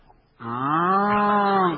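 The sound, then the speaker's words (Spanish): A person, asked to do it once more, imitates a cow with a single long, loud moo that begins after a brief quiet moment and holds steady, slightly rising in pitch, until the end. “Una vez más la vaca, doctor.”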